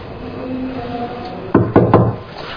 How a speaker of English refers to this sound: No doorbell. So knock on the door.